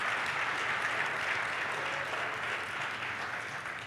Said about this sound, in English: that's right. It's worth a round of applause.